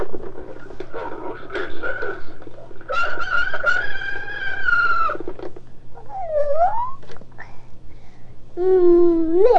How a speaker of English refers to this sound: What do you want to hear? Here. Rooster. Rooster? Do the rooster? Okay, pull it. Pull the ring. Find the ring and pull it all the way out.